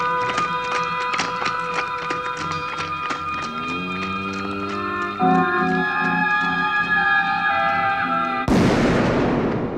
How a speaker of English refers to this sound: Interpretation of that last gunshot where Popeye Doyle shoots off camera, but he and Frog One are still alive? That's a very good question.